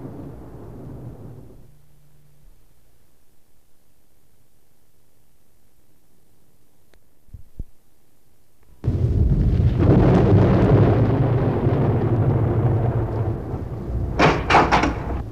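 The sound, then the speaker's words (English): A low rumble fades into near silence with a few faint clicks, then a loud, steady roar of heavy rain bursts in and continues, swelling with sharper crackling surges near the end. “But, Ben, it's raining.”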